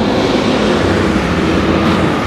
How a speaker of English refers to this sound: Can you hear me? These loud trucks going by.